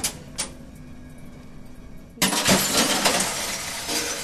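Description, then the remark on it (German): In a packaging test lab, a faint steady hum gives way to a sudden loud crack as a glass bottle, filled to the rim with water and clamped into the tester, bursts under the pressure, followed by about two seconds of harsh, rushing spray and clatter. No one speaks. “Und unter dem Druck platzt die Flasche halt.”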